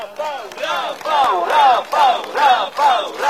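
A large crowd of Rafał Trzaskowski's supporters chants in unison at an election campaign rally, repeating a short rising-and-falling phrase about every half second in a loud, steady rhythm.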